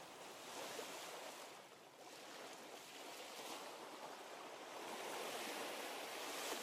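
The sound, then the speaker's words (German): Steady roar of surf washing onto a sandy beach, a broad hissing wash of waves running in and out that swells slightly louder toward the end, with no voices present. “Ihr achtet auf die Bewegung der Wellen, hört dem Rauschen der Brandung zu.”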